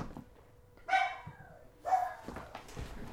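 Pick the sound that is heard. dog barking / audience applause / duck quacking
dog barking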